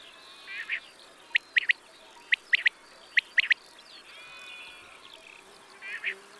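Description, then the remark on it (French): A common quail sings its sharp three-note call, repeated three times in quick succession, with softer growling notes before and after over a steady outdoor hiss. “La caille était très commune autrefois, et les paysans traduisaient son chant par « paye tes dettes, paye tes dettes ».”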